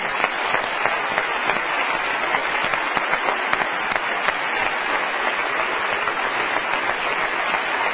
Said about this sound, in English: Let's give God the glory. Clap our hands unto the Lord as we're seated.